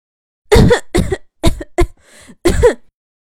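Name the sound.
violent coughing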